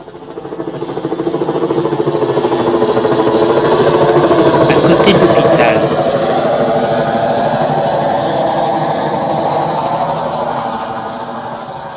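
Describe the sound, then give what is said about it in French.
A helicopter engine idles steadily after landing on the Rhône quays in Lyon, a loud, continuous low rumble with a fast pulsing beat that holds for the whole stretch and eases slightly toward the end. “L'hélicoptère est arrivé à Lyon, s'est déposé sur les quais de Rhône.”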